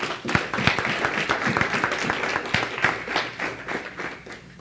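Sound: audience clapping hands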